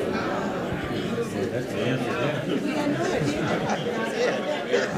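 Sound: audience booing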